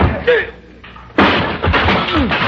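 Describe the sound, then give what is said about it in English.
A sudden loud crash as a chair strikes a man and knocks him to the floor, followed by a second of clattering, thudding scuffle with strained vocal grunts. “You knocked him down with the chair.”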